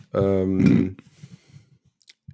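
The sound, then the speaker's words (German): A loud, ringing tonal burst lasting under a second, followed by a series of soft, irregular thumps and taps at a low pitch as fingers tap on an acoustic guitar, fading into near silence. “Tippt an der Gitarre.”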